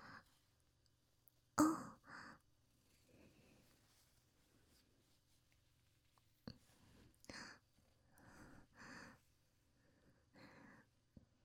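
heavy breathing

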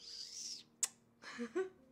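chirping

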